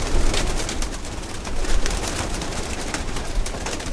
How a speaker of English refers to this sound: These aren't just normal run-of-the-mill pigeons that Joe Schnook found in the street. I mean, I've been breeding these birds for 38 years on my own.